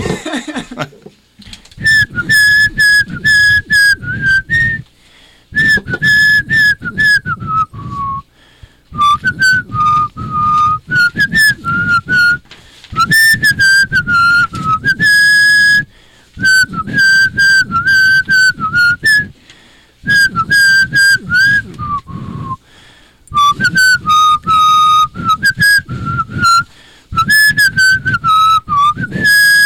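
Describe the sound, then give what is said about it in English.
A person whistles a cheerful Christmas tune, with clear sustained melodic notes in phrases separated by short breaths, continuing steadily for about half a minute with no talking. “…, whistle it for us a little bit. You claim the greatest Christmas song to whistle.”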